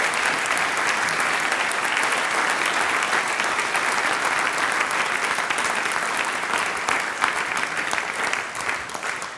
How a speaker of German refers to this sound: Und das ist der Applaus für die Zirchseitenmusi aus dem Enstal.